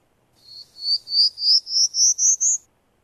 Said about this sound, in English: And well, let's listen to one. This is short, a prairie warbler.